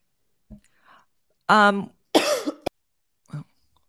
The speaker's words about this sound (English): Sorry, are you okay? Oh, yeah, I was just coughing.